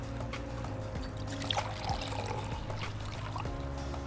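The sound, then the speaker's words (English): Wine pours steadily into a glass, a soft continuous gurgling trickle lasting a few seconds over a faint low background hum, with no one speaking. “You can pour me some more wine.”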